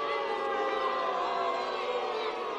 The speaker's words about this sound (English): Crowd didn't like the call. It was just slightly off the high outside corner, according to the digital data.